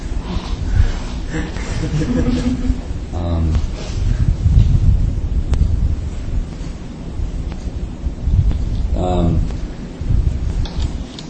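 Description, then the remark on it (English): A morning thunderstorm: steady rain and wind hiss fill the scene as deep thunder rumbles roll through, swelling loudest midway, with a few faint, indistinct voices breaking through the storm noise. “Just as predicted, it's a thunderstorm this morning, but it's supposed to become very nice later.”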